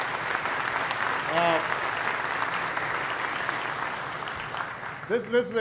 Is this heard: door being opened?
no